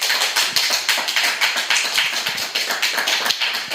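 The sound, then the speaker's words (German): Applause from a live audience at the Chaos Computer Club: many hands clapping in a dense, steady crackle of sharp claps that holds at an even loudness for several seconds, with no voices over it. “Mal gucken, wie laut der Applaus gibt, den es machen kann.”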